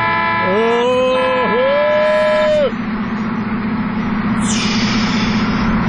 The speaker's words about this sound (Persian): اون نگاه کنه نیسان تزوری داره رانندگی میکنه، بذار یه بوق واسش بزنم شوشش حال بیاد.